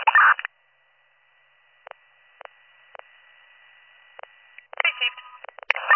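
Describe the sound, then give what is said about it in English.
A handful of short keypad tones beep at uneven intervals over a faint steady hum, with bursts of muffled, radio-like talk before and after the dialing. “I'll give her a call.”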